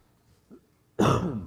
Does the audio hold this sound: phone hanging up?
no